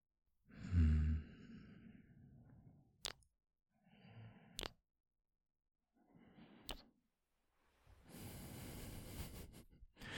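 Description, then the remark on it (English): Slow breathing with several drawn-out inhales and exhales separated by short pauses, a few soft clicks in between and a longer, heavier breath at the end. No one speaks. “Just focus on my breathing and relax.”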